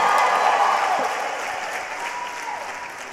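A church audience applauds and cheers together in praise to the Lord, a dense, steady wash of clapping with scattered shouts and whistles, loud at first and easing slightly over a few seconds.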